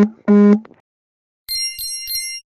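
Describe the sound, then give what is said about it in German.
A WhatsApp message notification plays on a phone: a short two-note chime, a brief pause, then three quick bright tones, each paired with a low buzzing pulse from the phone vibrating. “Nee, lass ruhig drin da den WhatsApp-Sound-Benachrichtigung da.”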